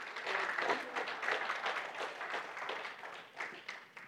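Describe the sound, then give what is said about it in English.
A church audience gives light, polite golf-clap applause: a steady patter of many hands clapping at moderate volume, with no cheering and no voices standing out, lasting about four seconds. “I'll get you out of that golf clap syndrome one of these days.”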